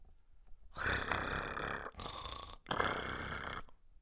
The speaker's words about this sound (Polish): Don Kichot, otrząsając z lenistwa swoje członki, porwał się na nogi i zawołał na swego giermka, który jeszcze chrapał w tej godzinie.